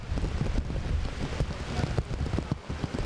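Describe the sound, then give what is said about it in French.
Steady, dense rainfall pours down in Port-au-Prince, Haiti, with gusty wind buffeting and rumbling low underneath throughout. “Et dans Port-au-Prince, dans moment n'a parlé à là, c'est kounya la pluie a dit l'a vini et l'a vini bien fort avec un pile vent.”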